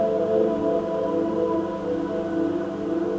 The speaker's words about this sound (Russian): Дельфины и белые киты поют песню любви и всеобщей гармонии.